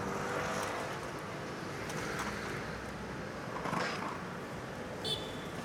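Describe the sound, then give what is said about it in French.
Continuous street traffic rumbles steadily, with cars swelling past now and then and a brief high-pitched squeal near the end. “Séparés lors de l'attaque qu'a subi leur localité, ils se rencontrent par hasard en pleine circulation.”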